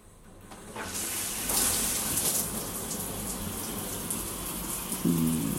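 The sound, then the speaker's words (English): A shower is switched on after a brief pause and runs in a steady, hissing rush of warm water that continues to the end, with a short low hum near the finish. “Step into the shower with me. Come on. There you go. Let's get this water on.”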